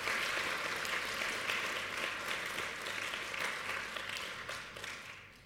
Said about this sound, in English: So I want to give a round of applause to all of our helpers. Thank you very much.